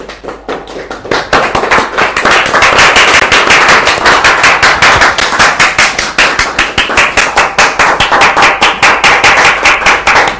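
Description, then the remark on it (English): A group claps loudly and steadily for about ten seconds, sharp claps coming in a fast, fairly even rhythm that holds its energy throughout, with no voices heard. “We'll get a lot of strength to resist the lure of women with that clap.”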